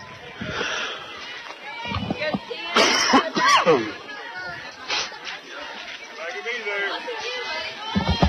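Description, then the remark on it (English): Rustling and crinkling as someone digs through a small pouch for a honey lemon cough drop, with a louder burst of rummaging midway, over a steady murmur of background chatter. “Counts full as I dig honey lemon out of my little pouch here.”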